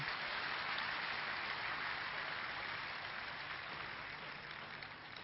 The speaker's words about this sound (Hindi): इसी खुशी में बजा दो एक बार ताली।